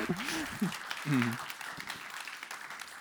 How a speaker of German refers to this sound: Kleiner Applaus für den Leser.